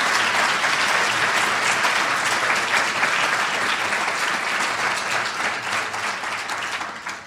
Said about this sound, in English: I think they did a great job and should have another round of applause for all their stimulating presentations.